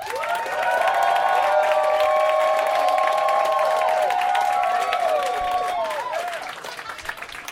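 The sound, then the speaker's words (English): An audience breaks into loud, sustained applause mixed with cheering and whooping voices, voting with its applause for a favorite comedy act, Mike Kaplan's Steve Harvey, holding steady for several seconds before tapering off slightly at the end. “So pick a favorite with your applause, starting with Mike Kaplan, Steve Harvey.”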